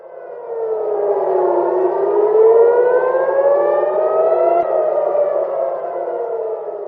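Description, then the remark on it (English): Air raid sirens wail over Tel Aviv, Israel, on a Wednesday night as interceptor missiles are seen overhead, several overlapping tones slowly rising and falling in long sweeping cycles, loud and sustained across the whole stretch with no voices. “In Israel, interceptor missiles were seen over Tel Aviv on Wednesday night, with sirens sounding as families prepared for Passover.”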